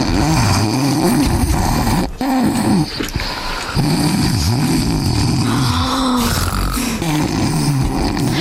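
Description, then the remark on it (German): Loud, continuous snoring from sleeping people, a low rumbling, rasping drone whose pitch wavers and rolls without pause for several seconds, with no talking over it. “Sag mal, hörst du das auch? Die schlafen noch.”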